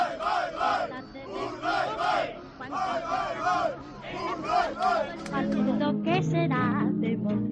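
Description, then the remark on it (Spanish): The Urdaibai rowing crew, a group of men, shout a rhythmic chant of 'Bye, bye, bye, Urdaibai' together, their loud voices rising and falling in repeated bursts before breaking into ragged cheering and overlapping yells. “Bye, bye, bye, Urdaibai, grita la tripulación de Urdaibai”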